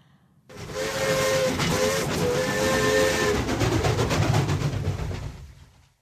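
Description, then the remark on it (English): A steam train rumbles loudly at night in the rain, its whistle sounding in a few sustained blasts over the heavy chugging and rattle of the cars, then fading out. “I open the window of the train compartment and gaze out at the night.”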